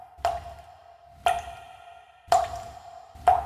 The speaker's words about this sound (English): Drip, drip, drip.